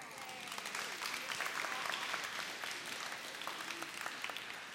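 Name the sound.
audience clapping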